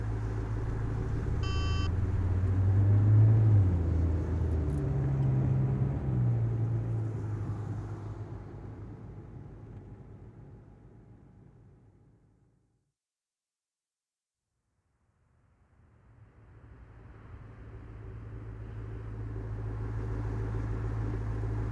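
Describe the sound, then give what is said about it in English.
A car engine rumbles steadily with a low, droning hum while the car is driven, fades out completely for a few seconds midway, then swells back to the same steady drone. No one speaks. “All right, keep the car running.”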